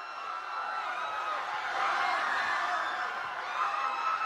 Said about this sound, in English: What is that sound? That's not a good sound. Is that the people running for it? I think that's just the people running for it and screaming.